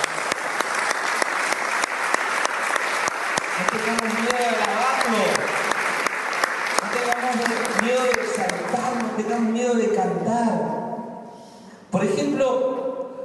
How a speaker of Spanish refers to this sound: Gloria a Dios. Aplauso para el Señor.